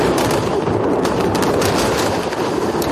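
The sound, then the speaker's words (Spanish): Dense, continuous rumble of gunfire and artillery blasts in an exchange of fire between Israel and Hezbollah at the Israel–Lebanon border, with sharp cracks layered over a steady low roar and no voices. “La frontera entre ambos es un auténtico polvorín donde crece la tensión en el mayor intercambio de disparos que se ha producido en los últimos 18 años.”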